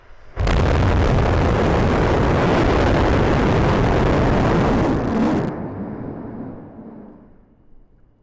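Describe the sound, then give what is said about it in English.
Six Raptor engines on the Ship 25 upper stage ignite in a static fire test with a sudden, thunderous roar that holds steady for about five seconds, then cut off abruptly, leaving a deep rumble that slowly fades. No voices. “Ship 25 successfully fired its six Raptor engines in a static fire test of the upper stage for next flight.”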